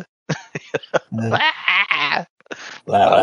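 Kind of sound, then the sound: sound effect, wilhelm scream sound effect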